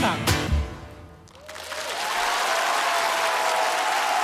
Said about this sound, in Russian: Это для вас аплодисменты